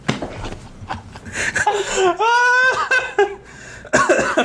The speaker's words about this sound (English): Sorry, I'm coughing.